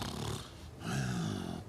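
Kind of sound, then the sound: human body sound, loud snoring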